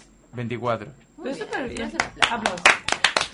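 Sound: applause sound effect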